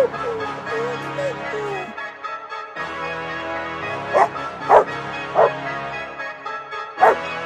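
A dog barks four times in short, sharp bursts, unevenly spaced, over a steady droning musical background, after a quieter stretch with a soft whine at the start.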